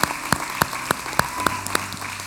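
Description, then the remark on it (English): An audience gives God a big hand clap, clapping in unison, a steady rhythmic beat of about eight sharp, evenly spaced hand claps over a low background hum, with no talking. “Can we give God a big hand clap for what he's doing?”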